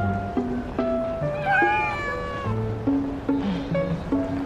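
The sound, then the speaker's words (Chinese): A pregnant cat named Ruirui lets out a drawn-out, wavering meow near the middle, clear, over a background of steady sustained tones. No one speaks. “瑞瑞怎么又胖了？是不是你偷偷的给他开小灶吃猫粮了？”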